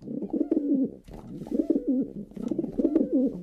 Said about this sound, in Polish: Podobało mi się, że są gołębie.